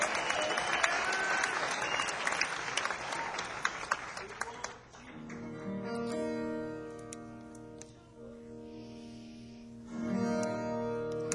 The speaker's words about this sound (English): Round of applause for Aidan, please.